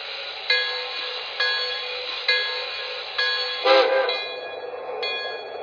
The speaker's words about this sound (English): Chicago on track one. Train number 54, the Gotham Limited.